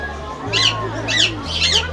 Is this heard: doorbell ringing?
no